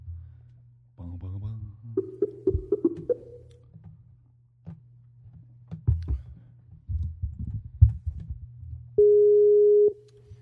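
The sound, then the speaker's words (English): A single steady telephone ringback tone, about a second long, sounds clearly near the end as a phone call is placed to a person, after muffled voices and clattering handling noises over a low background hum. “Well, it's ringing.”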